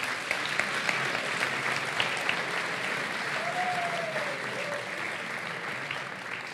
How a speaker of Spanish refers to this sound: Tenemos los nominados Aquí hay dragones, Noviembre nocturno y Radio Skylab. Un aplauso a los nominados.